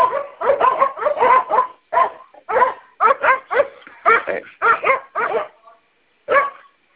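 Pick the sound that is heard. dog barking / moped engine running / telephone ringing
dog barking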